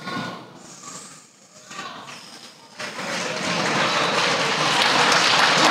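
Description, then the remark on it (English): Audience applause starts as scattered clapping with some murmuring, then swells at about three seconds into a dense, sustained roar of hands from a crowd. “I don't need no applause.”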